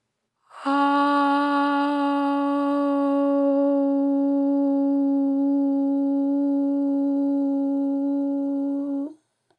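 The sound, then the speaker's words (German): A single sustained chanted "O" vowel, made as the lips slowly round from an "A" sound and the tone vibrates in the throat, held steadily for about eight seconds at a low, even pitch with rich overtones, fairly loud and alone before it stops abruptly. “Vom A-Laut ausgehend bilden die Lippen langsam einen Kreis und der Laut bewegt sich langsam nach vorne, rollt am Gaumen entlang und vibriert in der Kehle.”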